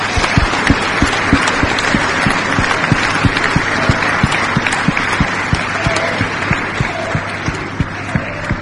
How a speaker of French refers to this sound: Nous pouvons l'acclamer, nous pouvons l'applaudir.